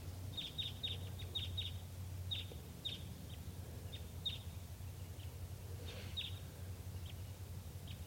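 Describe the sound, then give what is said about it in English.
Wild birds coming in at 9:22 a.m. give type 2 calls: short, high, clipped chirps in a quick cluster at first, then scattered singly. A steady low rumble runs underneath, and no one speaks. “wild birds coming in. Sounds like type 2.”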